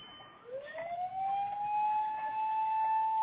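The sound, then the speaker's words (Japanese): A fire engine siren wails as the engine passes by, its tone sweeping upward and then holding a steady high pitch, fairly loud and growing slightly stronger, with no one talking. “あ、ちょっと今、消防車が通ってますんで、ストップしてます。”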